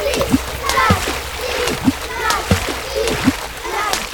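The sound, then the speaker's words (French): Rhythmic splashing through a wide, icy river, about five sloshing steps in a steady wading pace, fairly loud, with a background of voices. “Oh, une rivière, large et glacée. On ne peut pas passer dessus, on ne peut pas passer dessous. Allons-y, il n'y a plus qu'à plonger.”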